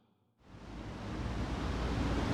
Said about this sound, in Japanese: 今私たちは九州を離れて京都の鴨川沿いを歩いています。いや、本当にこの水音といい、うん、緑の勢いといい、うん、はい、素敵な場所ですね。